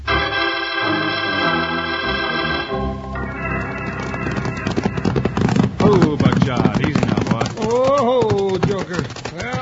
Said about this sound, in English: After hours of hard riding, Wild Bill and Jingles pulled their lathered horses down to a walk at the edge of the dusty cow town just in time to become involved in the Sunnyside Scrap.